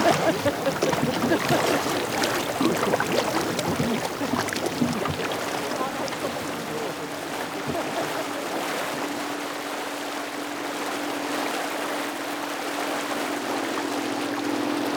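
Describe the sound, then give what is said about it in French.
Steady churning and splashing of water as a boat moves along past a cape toward a mountain, with a constant low engine-like hum underneath and a few faint voices in the background. “Vous êtes à bord du Scarven ou du Scarmite. Le nom de ce bateau apparemment est encore ouvert au vote et à la réflexion.”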